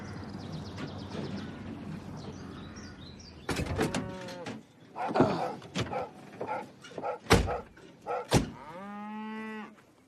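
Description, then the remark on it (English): Several cows moo in an open field beside a gravel road on a bright sunny day, long harmonic lowing calls overlapping, with a parked car's engine idling and faint bird chirps in the background. “He parks up beside a field of cows.”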